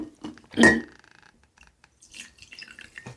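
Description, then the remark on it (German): A sharp clatter of cup or pot, then a pause before a light, bubbling trickle of Ronnefeld Morgentau green tea pours and drips into a cup for about a second. “Lass uns doch erstmal ein Tässchen Tee einschenken.”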